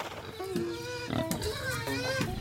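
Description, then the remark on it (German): Pigs grunting and squealing beneath a village house built on short stilts, with short overlapping calls over a busy background of children's voices and village noise. “Sie sind auf kurzen Pfählen gebaut, denn unter dem Haus leben die Tiere, Schweine, Ziegen, Hunde, Hühner.”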